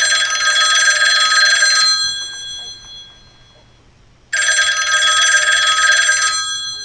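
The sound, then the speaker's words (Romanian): A loud, shrill telephone bell rings twice in long bursts, each about two seconds, separated by a quiet pause, insistent with no voices present, at a police station at night. “Deodată, telefonul a sunat ascuțit și tare la postul de poliție.”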